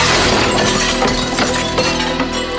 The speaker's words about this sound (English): Dan shoves him. He breaks a glass coffee table.